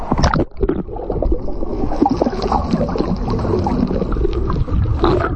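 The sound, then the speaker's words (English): The Pride of Maui, an aluminum boat, moves steadily through water, with a continuous rushing wash and splashing against the hull, plus a low engine-like rumble, fairly loud throughout. “Now, those are boats. Those do float.”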